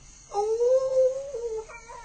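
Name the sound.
jackal howling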